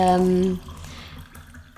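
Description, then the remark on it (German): Water trickles and splashes as someone pours themselves a glass of water, a short, soft pour that follows a brief hummed voice tone. “Ich gieße mir mal ein Wasser ein übrigens.”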